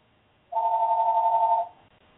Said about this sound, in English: And apparently the phones are ringing off the hook here.